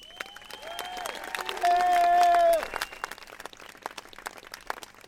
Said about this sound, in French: Et encore un tonnerre d'applaudissements pour ceux qui sont à l'origine de la réussite de cette semaine merveilleuse pour la gestion de l'eau.